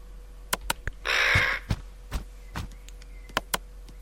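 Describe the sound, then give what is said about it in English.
A black crow lets out one loud, harsh, raspy caw lasting about half a second while angrily pecking at a telescope, surrounded by scattered sharp clicks and taps, with no talking. “He's getting a good telling off for invading that crow's home of shiny trinkets.”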